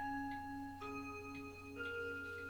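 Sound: clock chiming the hour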